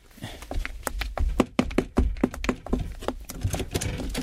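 Loud, rapid pounding on the door of a rented room by the landlady's mother: a fast, uneven barrage of heavy knocks that keeps going for several seconds with barely a pause, sounding forceful and angry.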